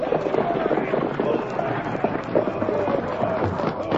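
Galloping horses' hooves clatter steadily along with rumbling wheels as a stagecoach pulls up, a dense, continuous rush of thudding beats with faint voices mixed in.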